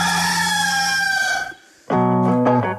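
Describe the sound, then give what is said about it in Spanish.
A rooster crows loudly, a long drawn-out call, then after a brief pause another strained, harmonic crow follows. No one speaks. “¡Este es el gallo!”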